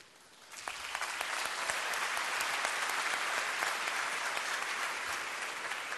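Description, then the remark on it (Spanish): An audience at the Premios Gardel ceremony bursts into applause for the Gardel de Oro award after a brief quiet moment, a dense steady wash of clapping that holds loud and even for several seconds with no voices standing out. “El Gardel de Oro se merece el aplauso.”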